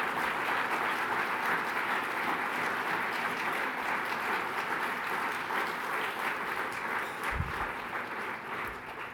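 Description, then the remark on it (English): Sustained applause from a conference audience for speakers who shared personal stories on stage, a dense steady wash of many hands clapping at a fairly loud level for the full stretch, with a brief low thump near the end. “Let's give all of them one more time a round of applause.”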